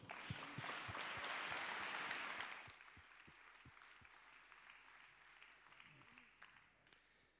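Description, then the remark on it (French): A crowd claps with dense, steady applause that stays strong for a couple of seconds, then thins into scattered, quieter clapping until it fades out. “Vous pouvez l'applaudir aussi.”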